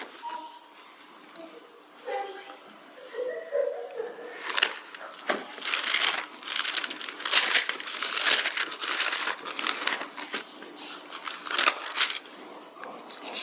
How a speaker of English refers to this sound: Sometimes it's a wonder I haven't torn some of these sheets already.